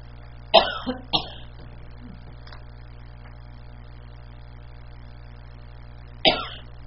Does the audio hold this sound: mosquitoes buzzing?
no